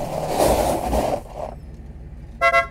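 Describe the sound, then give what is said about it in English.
A rumble of road or engine noise gives way to quiet, then a car horn sounds two quick, loud, bright beeps close together. “So he used to often just swing by after work, beep the horn,”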